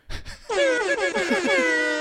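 A loud, brassy air horn sound effect blares for about a second and a half, its tone pulsing in quick repeated blasts, preceded by a brief low rumble.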